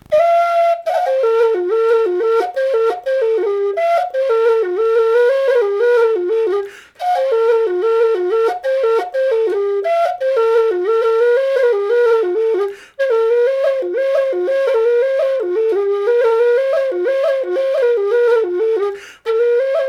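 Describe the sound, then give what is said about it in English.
A tweaked Jerry Freeman low F whistle plays a lively, ornamented tune in the key of F on its own, moving quickly between notes with short pauses for breath every few seconds, steady. “here is Spoigen in the key of F on an S on a tweaked Jerry Freeman low F whistle”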